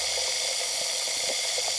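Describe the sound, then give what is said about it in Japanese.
Steady fizzing hiss of carbonated water coming from a turned tap and held up to the ear, with tiny scattered bubble pops crackling softly throughout; no voices, just the continuous effervescent sizzle. “それを耳に近づけて、ほら、パチパチ、パチパチって、泡が弾ける音が、お耳を優しく刺激して、なんだか、ふわふわっとしてきますよね。”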